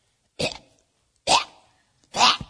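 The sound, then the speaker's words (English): A voice imitates their cat retching: three harsh, gagging hacks spaced about a second apart, loud, with silence between them. “And our cat pukes.”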